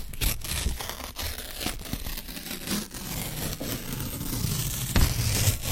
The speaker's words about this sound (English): Just getting it off the printer. It takes a while to get it off.